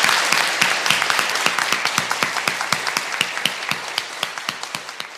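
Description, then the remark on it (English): A round of applause from a crowd for a group of presenters who have all just finished, many hands clapping in a dense, steady patter with sharp individual claps standing out, holding fairly constant and easing off slightly toward the end. “Now that they're all finished, I think they deserve a very, very big round of applause.”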